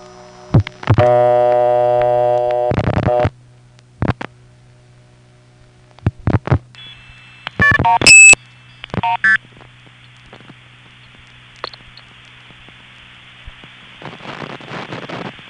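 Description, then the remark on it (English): Bursts of multi-frequency telephone signaling tones stutter and break up, cut through by sharp high single-pitch whistle blasts, over a steady low line hum, ending in hissy static. “Now, what happens if you blow 2600 while those three tones are being sent? Well, first, it causes that little MF sender to stutter.”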